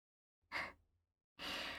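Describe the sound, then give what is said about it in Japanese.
A soft, breathy yawn, as of a sleepy baby: a short airy exhale, a pause, then a second longer, louder breath that runs to the end. No talking. “あらあら、あくびしちゃ、心身して安心したら眠くなってきちゃいまちとか。”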